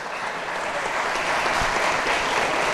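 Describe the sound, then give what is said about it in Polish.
Loud, sustained applause from a large crowd at a studniówka (Polish pre-final-exam school ball) after the polonaise dance, dense clapping holding steady throughout without pauses or other sounds standing out. “Ja proponuję gromkie brawa.”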